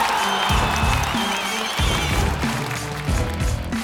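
An audience at an MC rap battle claps and cheers steadily for a few seconds, a dense wash of applause layered over a pulsing bass-heavy music track. No one speaks.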